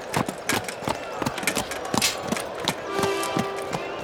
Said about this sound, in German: kommt gemächlich auf die Bahn geritten. Er sitzt etwas schief auf dem Pferd.